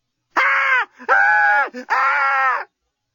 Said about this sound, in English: Lucy had never screamed so well or so effectively in her life.